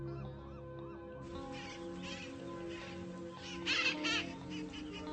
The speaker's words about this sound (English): That's my grandfather. He's letting me look through his spotting scope at some ducks.